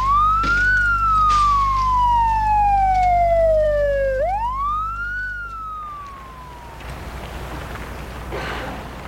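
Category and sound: vehicle, ambulance siren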